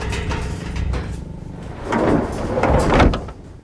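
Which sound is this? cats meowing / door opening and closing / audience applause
door opening and closing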